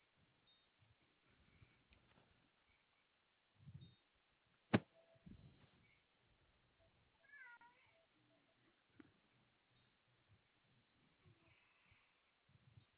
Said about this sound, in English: And someone snuck in and put my cat in here.